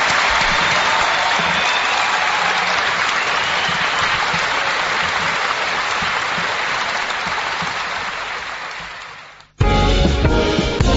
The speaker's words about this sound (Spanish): Gillespie, el gran Gillespie. Gracias, queridos amigos. Fuerte aplauso para Gillespie.